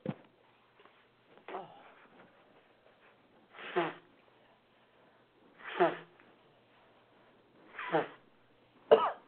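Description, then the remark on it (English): A sneeze followed by honking nose-blowing: about five loud, harsh bursts spaced roughly two seconds apart, each a short rough blast with quiet gaps between and no talking. “Yes, I hope you all didn't hear the honking. It's like a goose trying to mate with another goose.”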